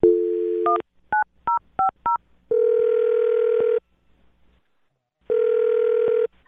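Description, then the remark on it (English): A steady phone dial tone gives way to a quick series of keypad beeps as a call is dialed, then a ringback tone sounds twice with a silent pause between rings, clear with no voices. “All right, well, I'm going to dial this phone right now.”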